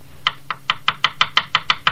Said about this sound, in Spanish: Creo que tocan a la puerta, tú.